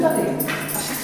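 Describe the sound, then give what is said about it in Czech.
A dog whimpers and lets out a few quick, high yips over about a second, with a murmur of voices underneath. “Nevadí ti psi.”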